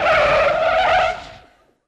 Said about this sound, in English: Piano drew up with a screech of brakes.